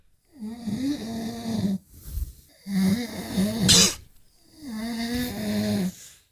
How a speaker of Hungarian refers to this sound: Ez az úgynevezett szorongó horkolás. Ez egy női horkolás. Ez egy női horkolás.